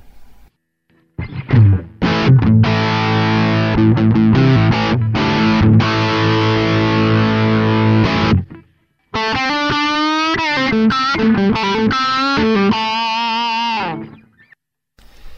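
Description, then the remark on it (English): Heavily distorted electric guitar, gain at about halfway, with EQ boosted in bass and treble, loud and alone: thick sustained power chords with short stops, then wavering single-note lines with bends and vibrato before fading out. “I'm going to add a bit extra bottom end, and also turn the treble up a little bit to bring out the top end from the distortion sound.”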